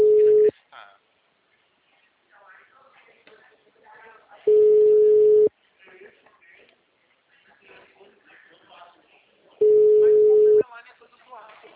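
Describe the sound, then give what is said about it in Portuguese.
A phone's ringback tone sounds three times on a call that is then forwarded to voicemail, each a steady one-second beep spaced about four seconds apart, loud and clear, with people talking quietly in the gaps between rings. “Meu telefone. Encaminhada para a Caixa Postal.”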